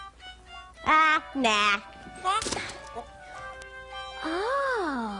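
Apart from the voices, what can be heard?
rubber chicken toy squawking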